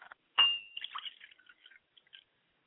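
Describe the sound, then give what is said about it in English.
Water is poured into a glass as an offering for a father's spirit, splashing with a quick bright clink, then trickling and dripping briefly before fading out. Fairly quiet, with no voices. “Pour a glass of water for my father's spirit, Ashe.”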